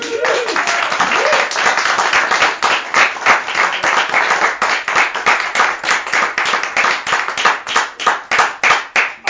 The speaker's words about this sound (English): You to keep the round of applause going.